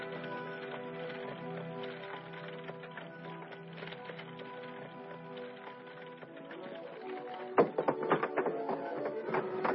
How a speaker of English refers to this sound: Let go of my horse. Hold it, horse.